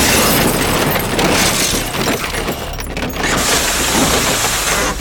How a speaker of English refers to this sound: The bone-shattering force of the impact is enormous. Reverberating waves ripple through the buckling cab like a gunshot. The airbags deploy, filling my mouth with a chalky, acrid bitterness.